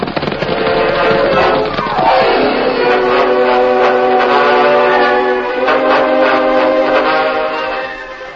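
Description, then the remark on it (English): A loud, wailing locomotive whistle from a work train arriving on the main track beside a telegraph office, in a light drizzle, sounds steadily for several seconds, its pitch sliding downward early on before holding a long chord and fading slightly at the end, with rumbling noise underneath. “It was only a short time later, and the rain had slackened to a drizzle, when a wailing locomotive whistle announced the work train's arrival on the main track beside the telegraph office.”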